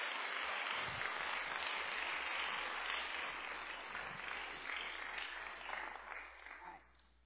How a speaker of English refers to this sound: It's been a long couple of months, but we're here, and we did it, and you sound fantastic, so applause for the choir and bell choir.